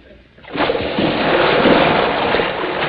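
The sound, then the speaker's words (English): After a brief quiet moment, a man falling from a high boat deck belly-flops into water with a loud, flat splash, followed by several seconds of heavy, sustained churning and spattering water. “A belly flopper. Forgot to point his toes, oh!”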